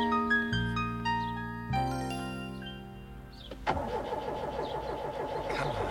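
A car's chiming warning tones give way to a starter motor cranking in a steady, rapid rhythm, churning loudly for a couple of seconds without the engine catching.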